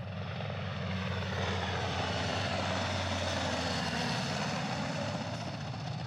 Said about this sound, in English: Yeah, we've got two H-60s, heavy Air Force Rescue Squadron helicopters coming in. Wow. That's what we're getting to see right here.